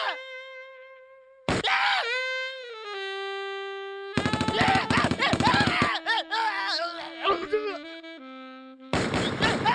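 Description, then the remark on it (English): Loud, harsh bursts of rapid-fire clatter like machine-gun noise alternate with sustained, wavering screams and wailing vocal cries that slide in pitch, the sections cutting abruptly from one to the next. “it's just machine gun noises and screaming.”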